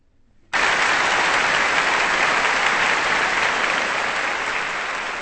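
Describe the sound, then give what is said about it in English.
Loud applause from a large audience at a live BBC Symphony Orchestra performance of Bohuslav Martinů's 1955 symphonic suite on the frescoes of Piero della Francesca bursts in abruptly after a half-second of near silence, then continues as a steady, dense wash of clapping hands without a break. “A live recording of the BBC Symphony Orchestra, with applause for the music of Bohuslav Martinů and his 1955 symphonic suite based on the art of the Italian Renaissance, frescoes of Piera della Francesca, on Kansas Public Radio,”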